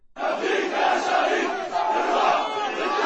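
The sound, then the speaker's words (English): Protesters shout at the funeral of a Palestinian man killed by an Israeli private security guard in Jerusalem, a sustained, dense roar of many voices, loud and continuous with slight swells, no single speaker standing out. “Protesters shouted during the funeral of a Palestinian man who was killed by an Israeli private security guard in Jerusalem.”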